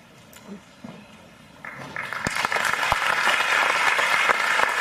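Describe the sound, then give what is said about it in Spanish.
An audience applauds veterans and their families in gratitude; the applause starts sparse and quickly swells into steady, dense clapping, sustained loudly to the end. “Con este aplauso queremos de una manera muy sencilla manifestarles a ustedes y a los veteranos nuestra gratitud y compromiso por orar por ustedes y por sus familias.”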